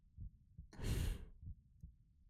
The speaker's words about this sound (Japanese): 私の心臓の音ですよ。ドクン、ドクンって、あなたのそばにいる音。